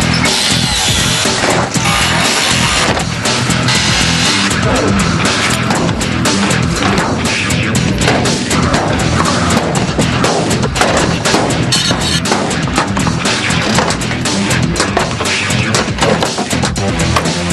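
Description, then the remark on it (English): Loud, continuous metalwork racket: grinding power tools and saws mixed with repeated sharp bangs and crashes as the body of a hearse is cut and smashed to remove dead weight, dense and relentless throughout. “Lindog attacks the hearse with every tool in their arsenal.”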